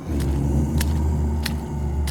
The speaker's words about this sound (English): Oh, I hear something. It sounds like creepy, mushy footsteps and moans. Oh, whoops. Here comes a bog zombie.